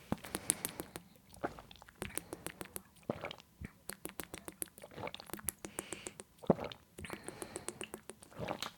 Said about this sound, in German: Also auf jeden Fall jetzt wir machen jetzt alle 5 Wasserschlucke. Wahrscheinlich haben alle gar nicht so viel Wasser parat, dann halt 5 kleine Wasserschlucke. Also mitzählen.